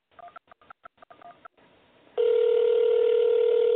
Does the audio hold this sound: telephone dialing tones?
yes